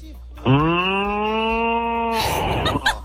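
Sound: ox mooing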